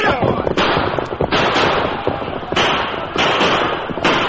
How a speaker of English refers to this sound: For several minutes, the gang, caught between the gunfire of the posse and of the Lone Ranger's group, put up a fight, but they were quickly subdued.